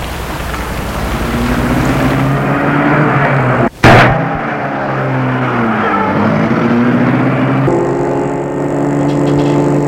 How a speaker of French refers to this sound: Et il le fait entrer dans sa voiture. Et la met en route.